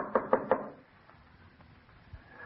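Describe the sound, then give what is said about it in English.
Three quick, sharp knocks on a wooden house door in an even rhythm, the doorbell being out of order, followed by quiet with faint background noise. “Oh, it was out of order when I was here. I had to knock.”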